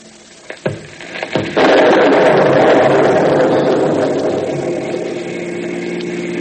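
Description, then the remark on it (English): A few sharp knocks, then a sudden loud crack of thunder from a lightning storm that rolls into a long, heavy, steady rumble, slowly easing off toward the end, with no voices. “Well, went a lightning storm. That's unusual. Yes, I heard it.”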